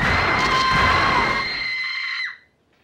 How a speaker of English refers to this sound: So that's … coming out of this fantasy screaming in real life. Kind of disruptive. Although understandable.